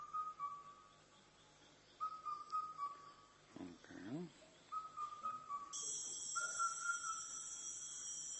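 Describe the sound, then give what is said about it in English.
An Indian cuckoo (Cuculus micropterus) calls in repeated whistled phrases of a few clear notes, spaced a couple of seconds apart, over steady hiss, with a short human vocal sound midway. “Okay, so here comes Indian cuckoo. Record number one.”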